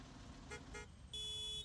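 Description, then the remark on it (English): Several car horns honk over a low traffic rumble in a lengthy queue of cars on the way out of Entebbe Town: two short toots in quick succession, then a longer, steady blast, overlapping. “Hoots from a far end to another were sounded in an unsettled manner.”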